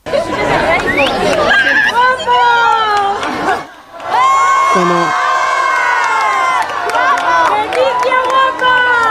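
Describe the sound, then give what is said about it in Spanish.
A loud, continuous crowd roar as citizens of Valencia give an ovation to the King and Queen in the Plaza Conde de Carlet, with shouting and cheering voices layered throughout, briefly dipping for a moment before swelling again. “Como estáis escuchando, ovaciones por parte de los ciudadanos de aquí de Valencia,”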